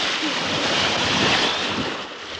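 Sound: sea waves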